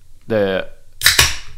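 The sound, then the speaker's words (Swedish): A brief voiced hum, then a sharp metallic crack and a second snapping burst with a quick fizzing hiss, like a beer can tab being pulled open. “Men att man säger knäcka en öl.”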